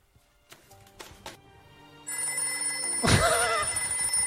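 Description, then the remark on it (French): A few soft taps give way to a telephone bell that starts ringing loudly and keeps going, with a sharp burst about a second in, and no one speaking. “Je reconnais le téléphone.”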